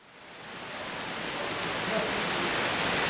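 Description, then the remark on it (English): Heavy rain pours down in Piszkopi and its surrounding areas during a thunderstorm, in a dense, steady hiss that swells in the first half-second and then holds loud and even. No voices are heard. “The heavens have opened back in Piszkopi and its surrounding areas.”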